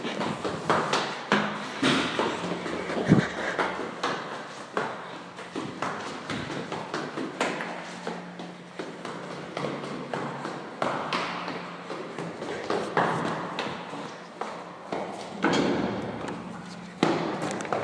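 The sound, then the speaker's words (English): Steady footsteps tap and thud in a quick rhythm, echoing as someone walks down three floors of a hard stairwell, with occasional louder knocks and a reverberant background hum. “Made a right out of the stairs, another right through the door, left at the end, and a left into the stairwell. Down three floors.”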